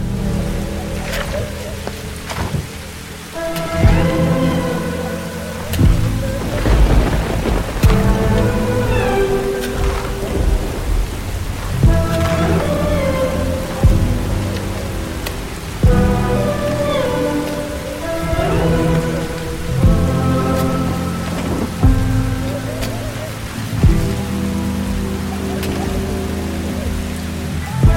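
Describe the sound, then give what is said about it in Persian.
Heavy rain pours down steadily in a dense, continuous hiss over a graveside where mourners dressed in black stand at a grave, with a slow, mournful music score layered over it and a few low rumbles in the background. “همه با لباس مشکی سر قبر ساحل ایستادن. بارون به شدت میباره.”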